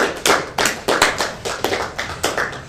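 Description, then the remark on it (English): A live show audience clapping together in a steady rhythmic beat, about eight sharp, loud claps evenly spaced over a few seconds, with no voices. “On The Price is Right, the clapping never stops.”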